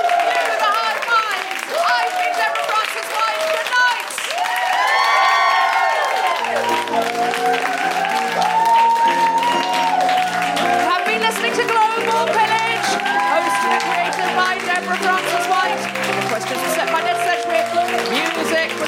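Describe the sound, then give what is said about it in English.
A crowd applauds steadily with loud whoops and cheers rising over the clapping, and after about six seconds a tune with a low bass line comes in beneath the ongoing applause. “And in the meantime, give it up for”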